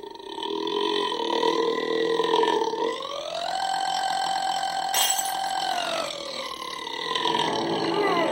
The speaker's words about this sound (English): So let's get into the first sound clip since we only have 15 minutes left. It's the longest burp.